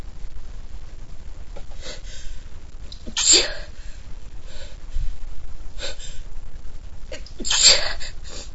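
Two small, sharp sneezes, several seconds apart, each a quick breathy burst against a quiet background with no talking.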